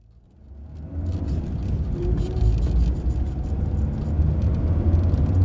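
An engine starts up quietly and builds into a steady, loud low rumble as a car pulls away and keeps driving, with no voices heard.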